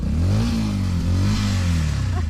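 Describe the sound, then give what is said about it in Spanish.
A three-day-old 125cc motorcycle engine revs up, its pitch climbing and dipping in quick throttle blips, loud and steady throughout with no talking. “Tiene tres días la moto, tiene.”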